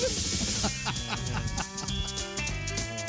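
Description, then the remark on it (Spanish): A voice imitates a turkey's gobble, a rapid, warbling run of throaty bursts, loud, lasting about three seconds with no other talk. “Porque esto es como los pavos, ¿no?”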